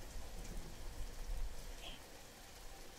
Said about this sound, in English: Oh, I think you're having a nightmare. You know, storms get you like this.